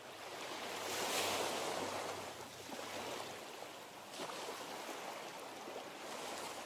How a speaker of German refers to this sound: Du lauschst dem Rauschen des Meeres und spürst leichte Brise, die deine Stirn kühlt.